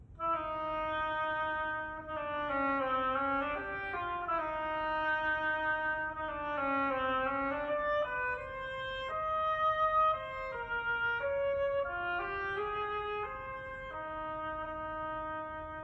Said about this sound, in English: This story is with music. Each character is represented by a different instrument of the orchestra. The bird by the flute. The duck by the oboe.